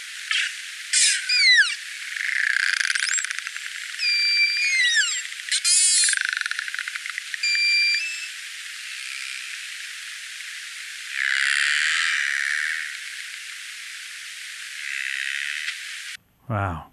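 Narwhal vocalizations recorded by audio tags attached to narwhals, very close to the surface and involving several narwhals: bursts of rapid clicks, several rising and falling high whistles, and buzzy, squawking pulsed calls, all over a steady background hiss with no talking.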